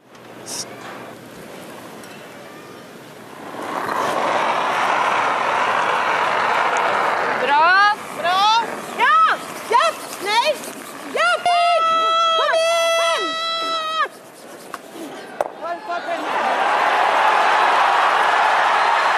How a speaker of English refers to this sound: Stones sliding across ice, furious brushing, the soft clink of one stone against another, and then the crowd grows wild. These are the sounds of curling.